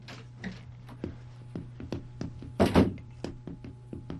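Steady, evenly spaced footsteps of a person walking to the door lead up to a louder, rougher burst of the door being opened to let someone in, with a low steady hum underneath and no one speaking.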